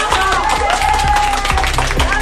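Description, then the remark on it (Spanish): A crowd applauds, with dense, steady clapping and scattered cheering voices mixed in. It stays loud and continuous for the full couple of seconds. “Aplausos, ¿no?”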